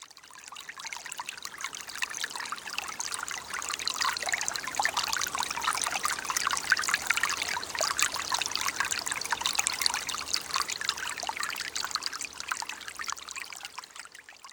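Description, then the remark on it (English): Water trickles and splashes steadily over stones in a stream, a bright, bubbling babble with many quick gurgles, continuous and fairly even in loudness throughout, with no voices. “And I just really liked that relationship, that contrast between these huge, great, rooted beings and the giggling, bouncing water.”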